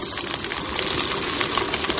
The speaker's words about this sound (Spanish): Suena que se están friendo unas papas fritas, unos boquerones, pero no, es una comunidad de miles de gusanos en un terrario, inquieta, pero poco más